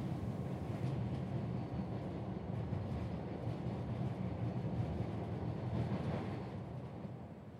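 A toy train runs steadily, a continuous rattling rumble that holds at an even loudness for several seconds with no voices, easing off slightly at the end.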